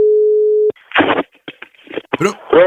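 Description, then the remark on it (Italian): A steady, loud telephone dial tone hums for under a second at the start of a prank call on Hit Radio Toscana, then cuts off abruptly as a person begins talking over the line. “è il momento degli scherzi più devastanti del mondo, gli scherzi telefonici più brutti, quelli con i personaggi crulli alla ribalta. Vai telefono, vai ciccio.”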